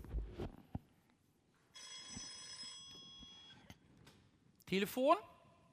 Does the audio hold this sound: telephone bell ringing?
yes